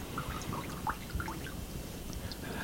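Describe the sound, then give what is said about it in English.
Water overflowing and dripping from a wet sponge held above a bowl: a quick, irregular patter of small drips and trickles over a soft steady background, with no one speaking. “Now we see the overflow. It couldn't hold it all, could it?”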